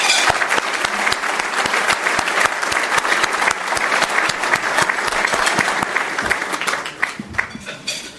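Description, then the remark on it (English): A sustained round of audience applause for First Lady Amy Wood at the City Club of Chicago, dense overlapping claps at steady volume for several seconds before beginning to thin out near the end. “So let's give another round of applause to First Lady Amy Wood.”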